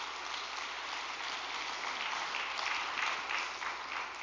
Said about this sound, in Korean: 이렇게 천심원 안수실과 효정 참가정 상담센터 임직원과 우리 안수 봉사자분들에게도 감사의 박수를 부탁드리겠습니다.